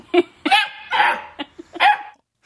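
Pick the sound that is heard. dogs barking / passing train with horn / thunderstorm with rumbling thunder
dogs barking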